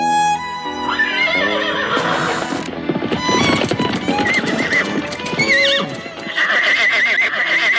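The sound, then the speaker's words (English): A horse whinnies loudly and repeatedly while hooves clop in a busy, uneven rhythm underneath, as the horse is being wrangled; no talking. “Job of horse wrangling”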